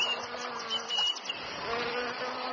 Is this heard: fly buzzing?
yes